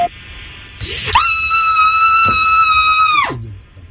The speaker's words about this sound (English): This is just scream.baby. Please record a scream to share.